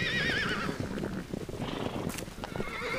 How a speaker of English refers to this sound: Living history comes thundering over the ridge. This is America's original horse.